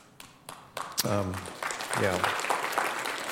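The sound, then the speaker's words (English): An audience breaks into applause to thank the children's ministry team, scattered claps quickly thickening into a dense, steady wash of clapping, with a couple of voices whooping over it. “And right now they're not hearing a thing you're clapping about because they're upstairs wrangling our kiddos, so you can thank them when you go up.”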